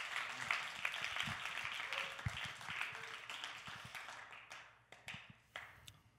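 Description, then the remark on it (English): A crowd at a religious meeting applauds those who teach or sow into it, with dense, crackling clapping that holds steady, then thins out toward the end into a few scattered, individual claps. “And so, yeah, can we just give a round of applause to those that are teaching or sowing into it?”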